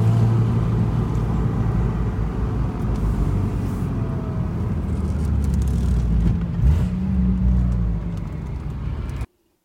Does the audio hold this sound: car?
yes